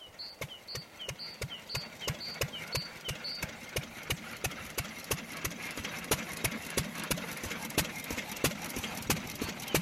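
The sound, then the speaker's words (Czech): An early tractor engine chugs steadily, its sharp, regular putting beats repeating several times a second throughout, with faint high chirps in the first few seconds. “A tak vlastně vznikl první traktor.”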